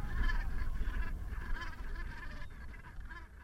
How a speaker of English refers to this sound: one of the most impressive sights at this time of year are the Brent geese, in their thousands